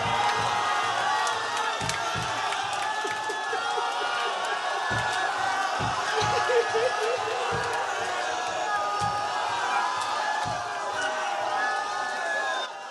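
A large crowd roars and cheers continuously, with sharp hand claps cutting through the dense noise at irregular intervals, loud throughout.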